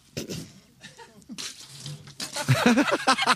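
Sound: water spilling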